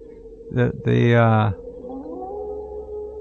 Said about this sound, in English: What is that? That's a wolf. Sounds like it.